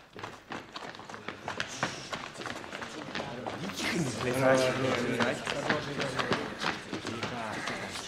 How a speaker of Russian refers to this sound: Тихо! Они бегут сюда! Мы пропали!